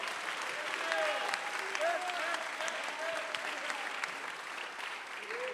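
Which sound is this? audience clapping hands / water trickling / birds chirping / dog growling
audience clapping hands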